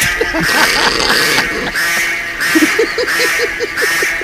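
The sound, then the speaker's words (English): A duck gives a rapid series of short, harsh alarm calls, about eight evenly spaced notes in the second half after scattered earlier calls, set against a steady outdoor hiss. “It sounds like a duck warning, like a duck alarm.”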